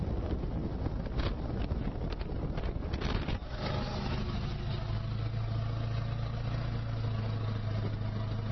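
Loud, rough buffeting of wind blasting straight into a cell phone microphone held out of a vehicle window, a constant roaring rumble, with a steady low engine drone emerging more clearly in the second half.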